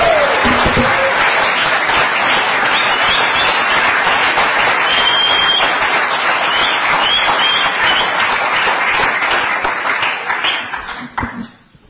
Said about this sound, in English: This once a year, Kids Church Prize Giving. So why don't we give a big cheer and clap to all those people who give up voluntarily their time every Sunday morning to teach their kids.